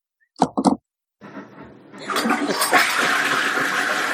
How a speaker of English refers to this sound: Go flush your toilet and come back and tell us which direction it runs in. I'll do the same.